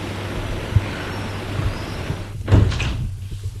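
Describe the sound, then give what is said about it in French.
The heavy door of an old building, at night in the streets a little away from the Champs-Élysées, is handled: a soft knock early on, then a louder scraping swing and thud as it opens and shuts, over a steady low hum with no voices. “Dans la nuit, il voit une porte de vieil immeuble.”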